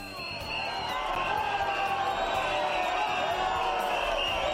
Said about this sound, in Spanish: El abucheo que sufrió anoche durante el pregón de las fiestas...